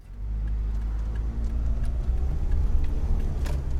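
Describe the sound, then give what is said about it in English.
A car drives steadily along the road in Minnesota on the way to a gig in Mankato, with a keyboard in the back seat. Its low engine rumble and road noise fill the cabin, with small rattles and clicks over the continuous hum. “So basically, I'd say I spend about 90% of my life in a car driving.”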